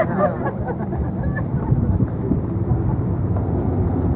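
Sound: bus passing by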